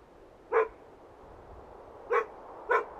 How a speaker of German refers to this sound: Ein typischer Sound in Vermont: Wind und ein einsam bellender Hund.